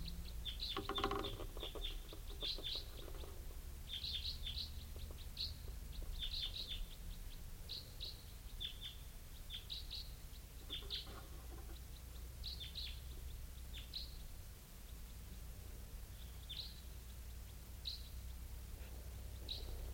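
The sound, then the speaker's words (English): Bird calls as a type 4 bird comes in: many short, high-pitched chirps repeating irregularly across the whole stretch, moderately loud, over a steady low rumble with no one speaking. “type 4 bird coming in.”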